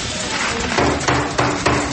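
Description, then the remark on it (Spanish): A rock-hard stale cookie from a school food ration (PAE school feeding program) given to students in Boyacá, Colombia, knocked against a hard surface, making about four or five loud, hammer-like thuds in a steady rhythm, with no talking. “Ese sonido que escucharon no es de un martillo, es de una de las galletas que les entregaron a algunos estudiantes de Boyacá en medio del programa de alimentación escolar PAE.”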